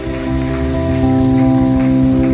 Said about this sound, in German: Vielen Dank für die Begrüßung, für euren Applaus.